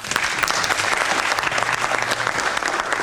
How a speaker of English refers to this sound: Let's say a tip of the hat and a round of applause to Andrew Little for being for doing the right thing at the right time.